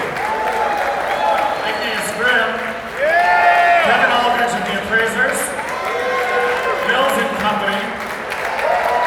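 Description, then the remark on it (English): A crowd claps steadily for several seconds at a 2015 music awards ceremony as the nominees for Best Americana Roots are announced, applauding fellow musicians, with voices calling out and cheering over the applause. The sound is loud and continuous. “This is when he does applause for all of your fellow musicians.”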